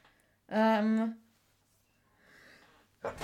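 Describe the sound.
A short voiced 'ahh' builds up, followed after a pause by a sudden, loud, explosive sneeze burst at the very end.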